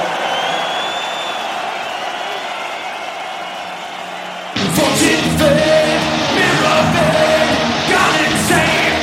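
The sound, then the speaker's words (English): A large concert crowd yells and cheers loudly and continuously in a loudness contest against the PA system; about halfway through, the roar gets even louder as booming amplified sound from the PA joins in. “Do you think you're loud? We shall see. It's you against the PA, okay?”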